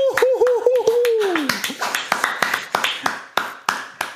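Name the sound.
applause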